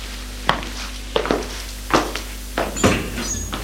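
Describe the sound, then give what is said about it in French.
A glass-paned door, hidden by a heavy burgundy curtain at the end of a small corridor, being opened: a handful of sharp clicks and clunks from the handle and latch, spaced irregularly over a low, steady background hum. “Petit couloir qui donne sur une autre porte vitrée, cachée par un gros rideau bordeaux.”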